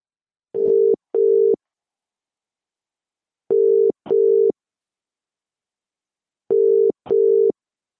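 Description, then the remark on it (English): A telephone ringback tone, on a call to the wedding expo organizer Melbourne Wedding and Bride, sounds three times, each a quick double burst of a steady mid-pitched tone, clear and moderately loud, separated by about two seconds of silence, with no voices. “We will have a discussion over the phone to work out some insights and tips for the brides who like to attend wedding expos in Melbourne.”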